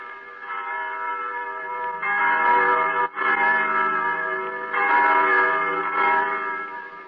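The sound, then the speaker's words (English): Church bells peal continuously and loudly, their rich overlapping tones swelling and ringing together with no voices, the clangs blending into a steady wash with brief dips between strikes. “If only I could still hear the wind and the trees, the larks and the sunshine, the young lambs crying through the healthy frost, and the blessed church bells.”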